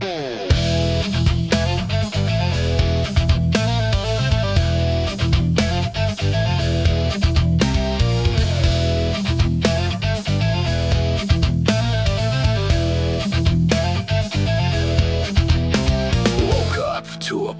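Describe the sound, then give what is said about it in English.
A loud, dense wall of distorted electric guitar crashes along with pounding drums, sustained and relentless for the whole stretch before cutting off abruptly at the end. “A single cowbell counts in, then crash distortion wall.”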